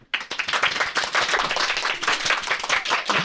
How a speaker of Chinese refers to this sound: 对，很乖，因为我们刚刚有交代大家，每个人自我介绍的时候都要有热烈的掌声。